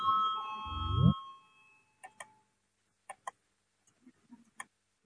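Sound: parliamentary voting bell ringing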